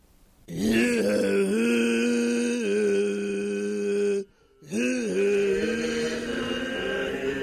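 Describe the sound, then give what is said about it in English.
A low, growling split-tone chant from a chorus group, in a traditional vocal style, sung in two long sustained breaths with two tones at different intervals: a deep buzzing drone with bright overtones ringing above it, broken by a brief pause for breath. “Would you mind demonstrating what we're talking about with, like, a split tone?”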